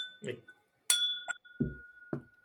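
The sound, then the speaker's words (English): A sharp, bright clink of glasses touching in a New Year's toast to 2026, followed by a clear ringing tone that hangs on for a couple of seconds while brief voices murmur. “So cheers to 2026 and booze dancing domination.”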